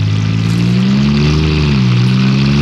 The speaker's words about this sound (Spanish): Garfio se aleja rápidamente y Calimán hace funcionar la marcha del auto.